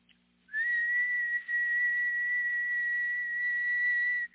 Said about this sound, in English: He was standing there talking to somebody else. And all of a sudden a whistle blew.